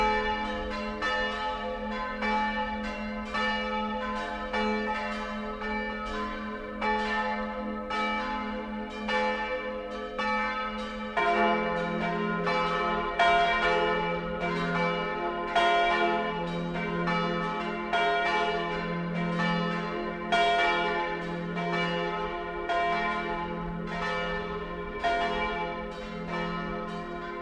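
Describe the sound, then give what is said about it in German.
The church bells of Terfens, a small village about 15 kilometres northeast of Hall above the Inn, peal continuously, several bells overlapping in a dense, rolling clangor with strong harmonic ringing; a deeper bell joins partway through, and the sound stays full and steady with no voices. “Die Glocken von Terfens.”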